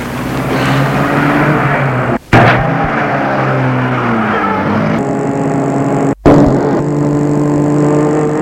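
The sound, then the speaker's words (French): A car engine starts and runs loudly, revving and pulling away in a steady roar, briefly cut off twice as if by abrupt edits. No one speaks. “Et il met la voiture en route.”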